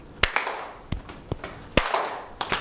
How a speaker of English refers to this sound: The first bit is clap, tap, tap. Okay, and then we go clap, tap, tap, clap, slap, slap. So that's the whole thing.